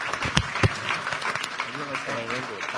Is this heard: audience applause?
yes